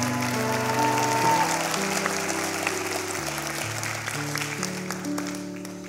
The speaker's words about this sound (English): Can we give another round of appreciation and applause for